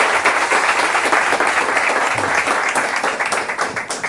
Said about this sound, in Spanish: Bé, doncs, donem la benvinguda al Ramon. Ramon Larramendi, benvingut. Endavant. Un aplaudiment per ell, sisplau.